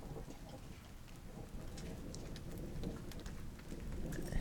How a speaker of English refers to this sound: But babe, look, it's raining.